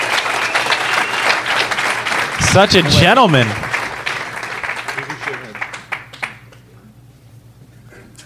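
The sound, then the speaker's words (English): A group applauds a prize winner with dense, crackling claps that swell for a few seconds and then thin out, while a voice speaks briefly over the clapping. “How about we all clap for the Congrats, winner?”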